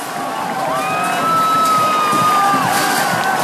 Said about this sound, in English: The crowd erupts when Polish striker Thomas Sikorski heads the ball in for a score.